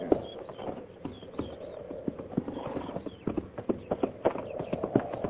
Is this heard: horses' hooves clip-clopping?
yes